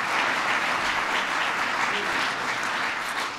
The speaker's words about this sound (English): So give him a big round of applause.